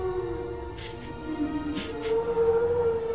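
A slowed-down donkey bray used as a Brachiosaurus's singing sound: a long, low, wavering moan with steady tonal harmonics, rising slightly in pitch and loudness toward the end, like a drawn-out howl.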